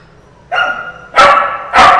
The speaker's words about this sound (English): an audio boo of the dogs barking. The shrill one is Baron. Blanca might join in, and so might Piper.